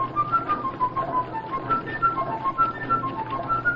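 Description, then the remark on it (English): A quick run of short, high flute-like toots rises and falls in a playful melody, steady, over a constant low engine rumble of a river boat in Tennessee mist; no one speaks. “Blow your flute at me, will ya?”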